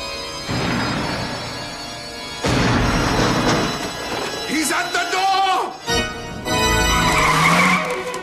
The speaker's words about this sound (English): Fingers fluttering, Thing scurries across the floor, skidding as it turns. From Thing's perspective, we zoom over the hardwood floors.